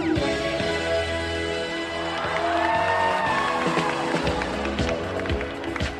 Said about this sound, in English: the crowd, normally known for shushing people, gets loud. Really loud.